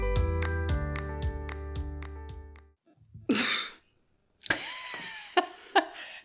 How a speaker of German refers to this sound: Einen dezenten Huster.